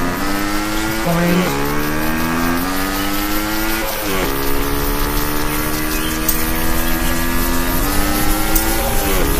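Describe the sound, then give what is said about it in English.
A video game car engine hums loudly and steadily, its buzzy tone rising and dropping in a few abrupt steps like gear shifts, continuous throughout. It is a car approaching in a bike-riding game while the player steers left to avoid it. “So, let's turn to the left to avoid that car.”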